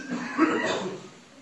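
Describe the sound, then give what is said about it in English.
An audience member coughs once, a short, rough burst trailing off into quiet background noise. “Everyone all cough together now.”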